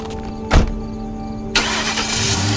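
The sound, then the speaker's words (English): A car engine in a parking lot cranks with a brief starter whir, then catches and settles into a steady running rumble, with no talking. “You're going to take my car and you're going to drive somewhere and dump it.”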